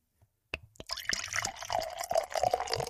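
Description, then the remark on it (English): A drink is poured into a Proof Point mug, a sharp start followed by a steady gurgling, splashing stream with bubbly highs, fairly loud, lasting a couple of seconds with no talking. “That is a real pour.”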